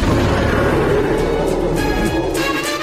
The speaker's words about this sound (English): Never heard a deer roar before.